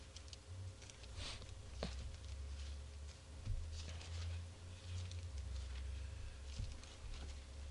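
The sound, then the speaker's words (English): Soft papery rustling and scattered flicks from many people in an audience leafing through Bible pages at once, turning to 2 Samuel 6, over a steady low hum, with no one speaking. “Oh, some of you are still turning pages.”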